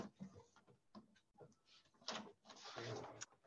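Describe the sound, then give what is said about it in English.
A desk drawer slides open with soft scraping and thuds, followed by crisp rustling as a sheet of paper is pulled out, in uneven bursts of handling noise with no talking. “I'm going to get a piece of paper. Hold on. Got to get it out of my drawer here.”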